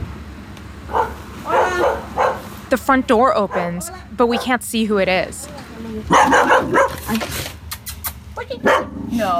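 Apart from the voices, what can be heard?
dog barking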